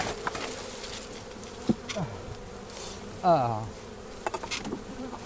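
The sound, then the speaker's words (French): Bees buzz, a steady insect hum with a louder, wavering buzz sweeping past midway, plus a few faint clicks and knocks; no one speaks. “C'est les fourmis qui m'ont piqué. C'est pas les abeilles.”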